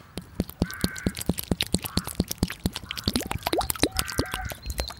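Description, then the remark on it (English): A little remaining water is poured out to rinse bare feet on a hill, splashing and trickling in a rapid irregular run of drips and plops with small gurgling bubbles. No one speaks. “Here, I've a little water left.”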